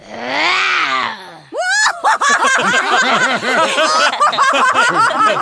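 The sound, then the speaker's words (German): A voice imitates a roar with a loud, rough, sustained bellow for about a second and a half. A burst of rapid, high, chattering laughter follows right after. “Dafür kann ich gut brüllen.”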